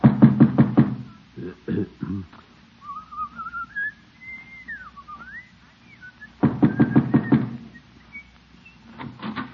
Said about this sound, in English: Well, what are you waiting for, Gildersleeve? You said you were going to tell her this morning. Just knock on her door and get it over with. All right, by George, I will.